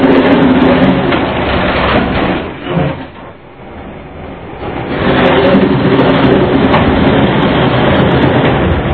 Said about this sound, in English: Actually, before you start, let me roll these noisy boards.